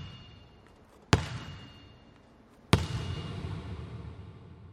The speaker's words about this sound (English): But then we went into the corner of the room and I got elevated on the bleachers and I had my microphone above the ball and the guy slammed the ball on the ground. And then as the ball was coming up to my microphone, you hear the ping.